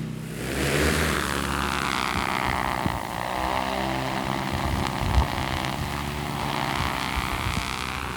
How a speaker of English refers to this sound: All right, we're ready to launch the drone. Copy. Tell me precisely where you want it. So if your drops are slightly below the contour, that would be perfect. Okay, launching.